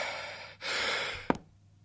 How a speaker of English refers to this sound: Why is he breathing?